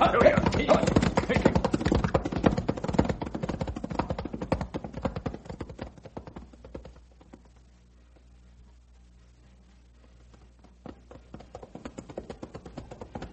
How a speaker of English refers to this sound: Don't let the pack horses drag, Ralph. Keep them stepping along.